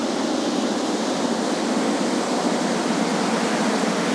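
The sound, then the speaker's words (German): Steady, loud rushing water fills the whole recording, a dense continuous roar like water pouring or churning, with no speech and no pauses. “Das könnte vielleicht sogar eine kleine Anlage sein. Eine Kläranlage, das tönt nach Wasser.”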